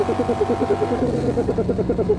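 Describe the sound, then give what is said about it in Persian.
A motor engine chugs with a rapid, steady pulsing rumble that holds fairly loud throughout, like a motorbike running and pulling away at speed. “مرغ کنگفوکار دکمه بالای تلفنش را فشار داد و چرخ بزرگ او به یک موتور منقاری تبدیل شد. مرغ کنگفوکار با سرعت بسیار زیادی حرکت می کرد.”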